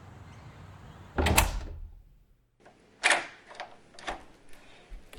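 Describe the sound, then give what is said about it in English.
A door swings shut with a solid thud, followed after a short pause by a series of metallic clicks and rattles as a key turns in the lock, without speech. “I have to lock the door because my cat is a little Houdini and would break out if I left the keys in the door”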